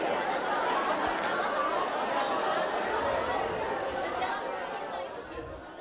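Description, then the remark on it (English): A steady hum of many overlapping conversations as an audience talks with people next to them about anything, a dense crowd chatter with a few scattered chuckles, holding at an even level before easing slightly at the end. “I want you to talk to someone next to you about anything.”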